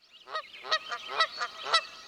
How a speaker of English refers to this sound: I have a question about the skeins of geese which fly over our house on their way to the local salt marsh at Martinmere. They're very noisy, constantly calling to one another. Can anyone translate what they're saying?